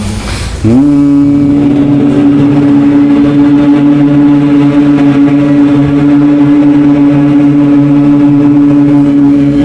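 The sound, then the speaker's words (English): A person hums a steady, bee-like buzzing tone on one exhaled breath with the mouth closed, as in the Bhramari Pranayama breathing exercise, starting abruptly and holding a loud, even pitch without a break to the end. “So if everyone could just sit comfortably straight, inhale, and then keeping your mouth closed, exhale and make a little bit of a high-pitched humming sound like a bee.”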